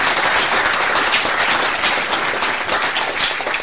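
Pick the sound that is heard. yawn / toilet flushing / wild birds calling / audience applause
audience applause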